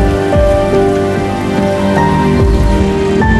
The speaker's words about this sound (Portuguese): Imagine sentir o mundo da mesma forma que Pixel. Você poderia ouvir e sentir o cheiro de uma tempestade muito antes dela chegar.